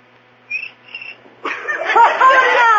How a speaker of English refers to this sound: How do you like that? A cricket with rhythm. Oh, that was just a coincidence.